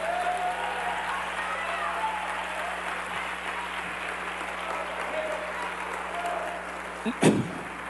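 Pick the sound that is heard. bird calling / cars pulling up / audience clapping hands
audience clapping hands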